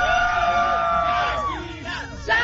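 A fan club crowd in Mexico cheers and shouts together before a concert, in one long, high, sustained yell that wavers and slides downward as it fades, with a fresh burst of shouting at the very end.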